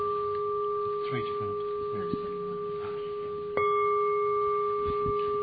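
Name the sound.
bell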